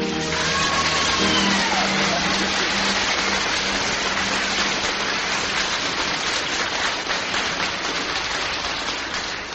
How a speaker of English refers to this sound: Well, all I can say is you must be a very good butcher to have your customers applaud like that for that sort of...